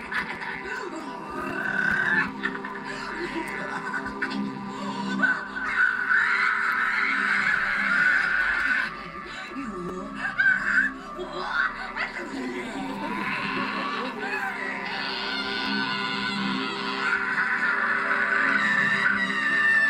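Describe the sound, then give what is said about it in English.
A woman's voice lets out loud, harsh, croaking roars and screeches almost without pause, raucous, imitating a monstrous witch, performing the witch's revenge in the film Berberian Sound Studio. “in the film Barbarian Sound Studio, where she expresses, like, she's performing the witch's revenge.”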